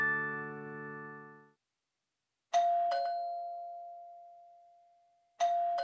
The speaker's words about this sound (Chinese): 新的一天从叮咚叮咚的门铃声开始了。